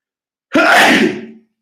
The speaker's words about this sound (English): I gotta sneeze.